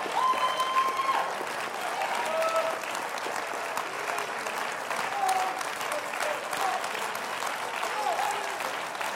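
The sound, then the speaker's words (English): An audience applauds steadily during a church service, a dense, even wash of many hands clapping for the whole stretch, with faint voices and a few brief high tones or shouts rising above it. “And if that hand clap is not about the wonders he's done in your life, then please stop.”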